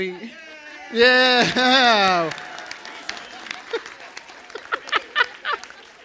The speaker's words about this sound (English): Well, I feel like we just got married, like shaking everybody's hands and everybody like cheering and clapping. Like, what a reception. Thank y'all so much.